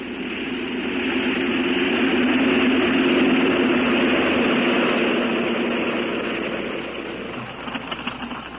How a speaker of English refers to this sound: You better get back into your seat. We're landing.